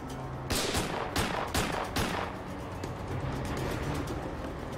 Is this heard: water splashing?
no